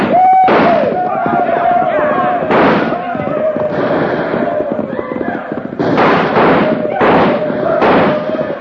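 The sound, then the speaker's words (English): Loud gunshots crack out in an irregular volley as riders ride through a village with guns blazing, about seven sharp bangs spread over several seconds, over a steady high-pitched sustained tone like a drawn-out yell. “We're riding right through this village with guns a-blazing.”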